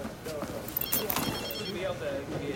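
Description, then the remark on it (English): A short electronic phone message alert chimes, a few bright high tones in quick succession, heard under ongoing voices and background chatter. “Did you change your message sound? Because that sounds like mine.”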